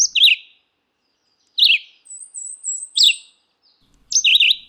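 Red-eyed vireo song in a cottonwood forest along a river in June: short, slurred whistled phrases repeated at steady intervals with brief pauses between them, clear, with a thin high whistle from another bird in the background.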